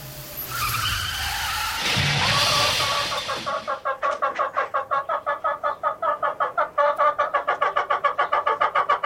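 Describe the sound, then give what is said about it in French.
Loud tire screech and rushing noise as a car skids for a few seconds, then stops and gives way to a fast, steady train of harsh pulsing clucks or chatter. “Excusez-moi, je n'arrive jamais à faire la différence entre le frein et l'accélérateur.”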